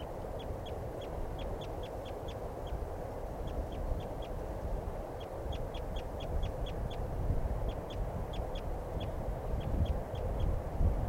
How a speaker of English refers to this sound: And I see both birds, male-female pair. I took a shot at the female, but didn't get her. And both birds seem, the female seems okay. And the male, I think, is the one that's calling there. But I'm not sure. Both birds calling now.